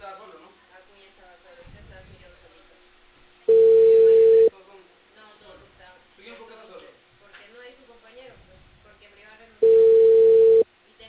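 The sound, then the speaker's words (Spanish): Two loud, steady telephone line tones, each lasting about a second and spaced several seconds apart, with voices talking quietly in the background between them. “El teléfono.”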